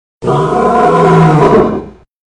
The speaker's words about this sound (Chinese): 我被震得打了个机灵，这是哪个牌子的毛绒玩具，竟敢用这种全仿真的狮吼声？这是能把人瞬间带回大草原的声音啊。